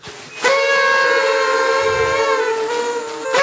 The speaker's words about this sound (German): Okay, ganz kurz mal, wo kommen diese Tröten jetzt hierher? Das sind Partytröten.